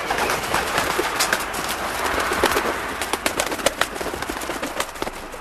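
A flock of pigeons coos and calls amid a steady rustle, with sharp bursts of wing flapping growing busier toward the end, moderately loud, no talking.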